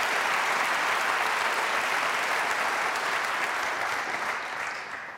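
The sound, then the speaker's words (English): Warm, sustained applause from a large audience after a 14-year-old pianist plays Chopin études from Opus 25, number 6 and number 12, The Ocean; a dense steady patter of clapping that holds strong before gradually thinning and fading toward the end. “Gosh, and I know we weren't supposed to applaud after the 6, but it's just so hard, and you play it, make it so easy.”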